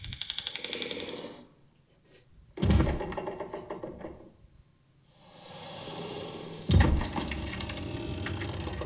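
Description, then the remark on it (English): Wooden stairs creak and groan under slow, heavy steps as a creature comes down into a basement, with a few dull thumps of footfalls between drawn-out creaks. The sounds are fairly loud, with no one talking. “So those are the stair creaks as it's coming down into the basement.”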